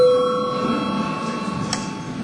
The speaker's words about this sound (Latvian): Kolēģi, ir pienācis laiks pārtraukumam. Lūdzu zvanu.